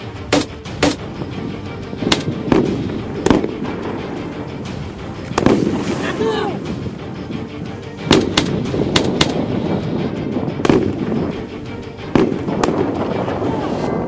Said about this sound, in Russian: Дирекционный 12,5. Дальность 1,100. АГС. Очередь. Больше 100. Беглые. АГС, огонь.